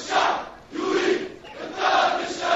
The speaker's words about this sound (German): Das libysche Staatsfernsehen übertrug Bilder von Demonstranten aus Tripolis, die Rache für Gaddafis Sohn forderten.